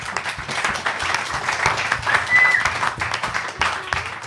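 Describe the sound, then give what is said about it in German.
A crowd applauds steadily to welcome arriving guests, many hands clapping in a dense, sustained patter with a few brief whistles cutting through near the middle. “Applaus bitte mal.”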